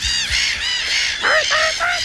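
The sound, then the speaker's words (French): A person, the 2024 world champion of seagull-cry imitation, mimics a seagull with a run of loud, wailing cries, several quick squawks in a row followed by shorter, higher calls, with no talking. “On pourrait écouter le cri de la mouette pour décrocher ce titre.”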